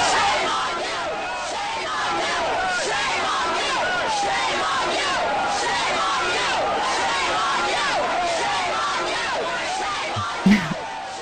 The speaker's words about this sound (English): sent us a little video footage of the pro-choice demonstrators being impressively loud as they shouted, "Shame on you," to the antis.